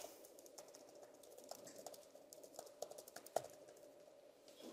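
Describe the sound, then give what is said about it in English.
Rapid, irregular clicks of keys pressed on a computer keyboard as someone types to edit a shared document, a steady stream of light taps with a few sharper strokes, over a faint background hum and no voices. “And I can go ahead and edit the document by typing here.”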